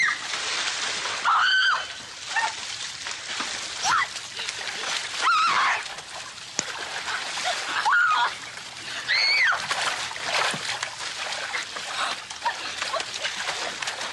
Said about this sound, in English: But they're in the mud, they're splashing around, and I'm going to guess that Alison Arngrim and Melissa Gilbert had a great time doing this.